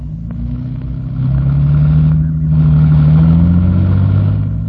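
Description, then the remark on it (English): A policeman's car engine hums, then revs higher and pulls away, its low droning note rising and holding steady as the car drives off down the road. No one speaks. “Come on, let's go in your car.”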